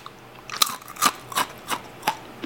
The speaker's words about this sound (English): And I know you would have totally taken my word for that these are super crunchy, but just in case we have a few skeptics, let's listen in.